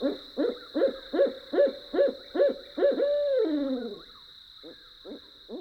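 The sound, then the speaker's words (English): An owl hoots at night outside campers' tents in a quick, steady series of about eight calls, ending in a drawn-out descending note, followed by a few fainter hoots, with a constant high insect-like tone in the background. “With owls hooting outside our tents, we drift into deep sleep.”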